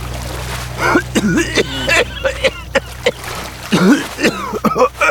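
A person suddenly convulses, sputtering through a run of harsh coughs and wet gasps while coughing up water from a pond, fairly loud, the bursts coming in an uneven rhythm.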